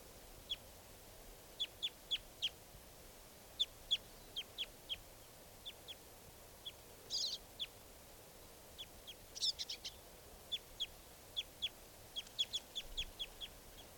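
Several birds, a lone male joined by other birds, call over a steady low hiss, giving short, high, sharp chirps in uneven bursts, with a few brief clustered trills and squeaky notes standing out among the repeated calls.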